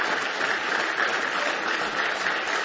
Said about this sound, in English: Somebody say praise the Lord. Give Him one more big old hand clap of praise tonight if you love Him.